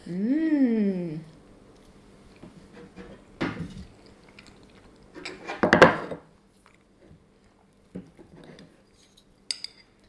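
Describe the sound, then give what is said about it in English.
Banana being mashed in a bowl: a handful of scattered spoon clinks and scrapes against the dish, with one louder knock midway, after a brief sung vocal sound at the start. “I'll give you a bit to chew and then I'll mash up some more.”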